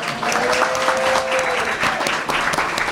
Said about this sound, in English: Hey, say applaud for Ace. You don't have to. It's fine.